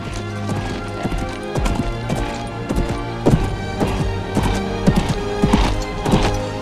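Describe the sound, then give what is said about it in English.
Hooves of a sleek black horse named Widowmaker gallop over fields with a rider, in a quick, uneven rhythm of sharp thuds, steady throughout, over a sustained tonal hum in the background. “He watches as Daniel gallops over the fields.”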